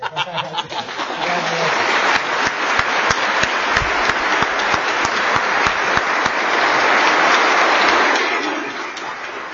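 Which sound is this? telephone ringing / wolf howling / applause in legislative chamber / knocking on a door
applause in legislative chamber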